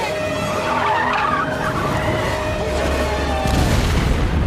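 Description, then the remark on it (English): A loud CGI movie explosion in a film's final battle roars continuously, with a screeching, skidding edge over deep rumbling that swells heavier near the end. No one speaks. “Awful really CGI explosion with two question marks and two explanation.”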